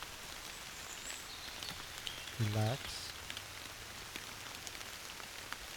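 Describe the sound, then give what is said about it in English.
Steady rain falls throughout, a soft continuous hiss dotted with sharp drip ticks, while a calm voice speaks one brief word partway through. “As you sit here, listen to the rain.”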